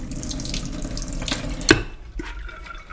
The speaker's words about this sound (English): And I'm just going to add water, which will be then used for final cooking. How much water are we adding? For 1.5 cups, I would add 1 liter of water.